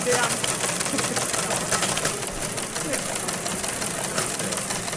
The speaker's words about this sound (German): Also eigentlich ein alter Fernschreiber, den wir jetzt hier angekoppelt haben, dass man da SMS hinschicken kann und der druckt die dann aus.